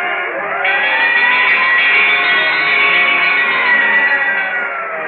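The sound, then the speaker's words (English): A loud fire siren bell, the sound signature of Texaco in a Texaco radio advertisement, wails steadily. Its pitch climbs at the start, holds, then slides back down, with bright ringing overtones and no voices over it. “When you hear the siren bell, think of Texaco.”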